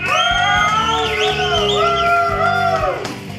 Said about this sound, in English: Some pretty good cheering.